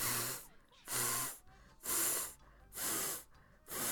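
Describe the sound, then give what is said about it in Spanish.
People imitate the hiss of Micifú the cat with five loud, breathy bursts of air, evenly spaced about a second apart, each a sharp, sibilant rush with short quiet gaps between. “Vamos todos a imitar los sonidos del gato bufando.”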